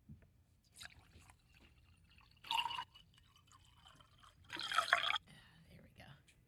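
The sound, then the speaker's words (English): Wine is poured into a glass in two short splashing bursts, the second longer and louder, over a low background hum with faint murmuring. “hold on, I just got to pour another thing of wine on this mess.”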